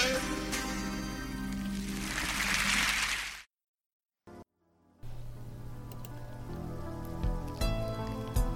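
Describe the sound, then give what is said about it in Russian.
Steady summer rain patters on an iron-sheet roof over a musical backing, swelling into a dense hiss before breaking off into a brief silence, then resuming more softly beneath sustained tones. “Летний дождик хлещет в крышу по железным полистам.”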